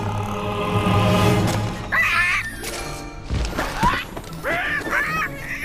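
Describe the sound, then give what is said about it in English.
An eagle named Monty squawks several times, harsh, raspy cries spaced out after a noisy, rumbling start, with a louder flurry of calls near the end. “Come, my majestic eagle.”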